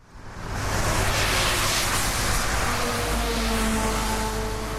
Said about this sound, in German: Es regnet im Aretal. Die Autos und Lastwagen ziehen eine Gischtfahne hinter sich her. Der Wind bläst den Arbeitern auf der A6 das Wasser ins Gesicht.